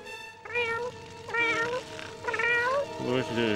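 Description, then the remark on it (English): A cat, Snowball, meows several times in a row, each meow drawn out and wavering in pitch, fairly loud over a steady background, as it runs up a tree and jumps on Homer, pawing him to wake him up. “The cat runs up the tree and jumps on Homer, pawing him to wake him up.”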